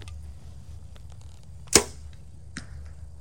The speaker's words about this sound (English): You just smacked my first arrow.